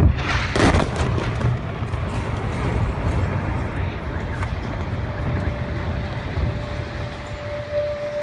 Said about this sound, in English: calls the bombings fireworks. He sinks in fear when explosions wake us up from sleep. He runs to the person closest to him to hide.